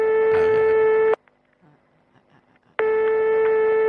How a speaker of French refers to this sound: François téléphone, mais Jacqueline ne répond pas encore.